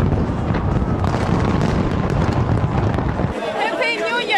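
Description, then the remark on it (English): Loud, dense bursts of New Year 2023 fireworks in New Zealand crackle and boom in rapid succession for a few seconds, then cut to a busy crowd with cheering voices and high whistles. “In New Zealand, 2023 arrived with laser lights and fireworks.”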